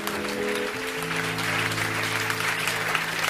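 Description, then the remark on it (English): A church audience claps steadily in dense, continuous applause as a clap offering to the Lord, with sustained organ or keyboard chords held underneath throughout. “Clap your hands.”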